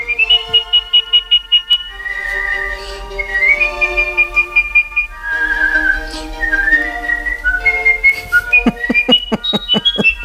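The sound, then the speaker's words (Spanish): A woman, the world whistling champion, from Colmenarejo, whistles an intricate melody alone, with rapid staccato trills at the start, sustained sliding notes in the middle and quick ornamented runs at the end, loud. “concretamente de Colmenarejo, y es la campeona del mundo de silbido.”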